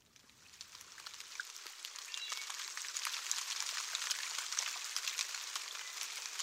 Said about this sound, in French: Voilà. Il pleut. La saison des pluies.